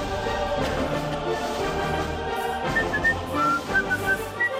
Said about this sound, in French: Alors, vous croyez que ça sifflote dans les arènes au moment des lions.